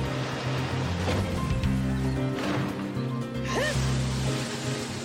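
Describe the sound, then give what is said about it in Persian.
A loud, steady roar of rushing water surges for several seconds, thick, with whooshing swells and a few swooping tones layered over the torrent, as a water-creation magic spell unleashes a destructive waterfall attack. “جادوی خلق آبی، آبشار نابود کننده.”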